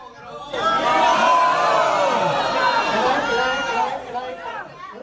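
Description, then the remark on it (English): At a city council meeting, a large crowd shouts no loudly all at once when a council member calls a vote on a possible site, a sustained roar of many overlapping voices calling out and whooping, tapering slightly before a few stray shouts at the end. “But then he says, and how many people say no?”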